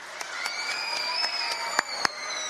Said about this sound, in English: You know, we had a lot of fun here. We got some cheering.